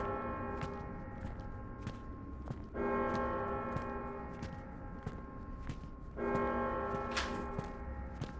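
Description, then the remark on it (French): A church bell tolls twice at 7 p.m., each deep, resonant strike ringing out and slowly fading, while steady footsteps tap along underneath in an even rhythm. “Pourquoi elle sonne à cette heure-là ?”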